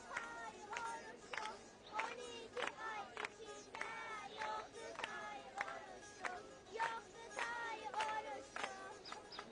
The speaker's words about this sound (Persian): کودکان هم با تشویق‌هاشون قاصد رو همراهی میکنن.